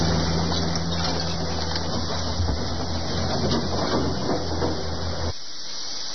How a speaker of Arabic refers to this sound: تستمر لرويس محجة للزوار فيما ورشات الترميم تشهد أعمالا متواصلة لعودة الحياة إلى طبيعتها. لا صوت يعلو هنا فوق هدير الورش في رويس